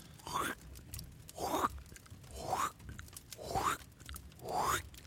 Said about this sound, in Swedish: det är när du klipper i papper med sax. En riktigt vass sax.